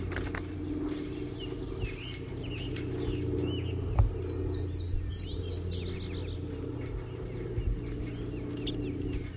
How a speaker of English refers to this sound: 37 and 40 are now in the same small cage on the stump here. in the net setup, and they've been giving chitter notes, and I'm going to try to record that and identify the birds giving the chitter notes.